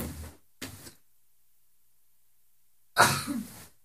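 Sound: sneeze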